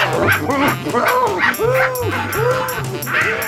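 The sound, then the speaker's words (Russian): A dog barks again and again in quick, steady, loud bursts, each bark a short rising-and-falling yelp, with a low hum running underneath. “Собака! И небось большая! И небось не одна, а целый свор!”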